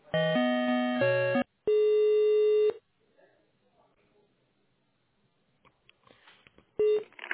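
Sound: telephone tones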